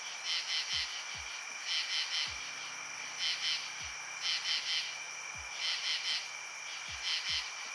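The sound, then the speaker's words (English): A katydid stridulates, scraping the ridged file on one forewing across the hard edge of its other forewing, in steady, raspy pulsed bursts that repeat in short groups throughout, while low swooping calls drop in now and then from the night background. “if you look closely, you can see that this file has many ridges, which when scraped across the hard edge of their other forewing, produces the classic katydid sound.”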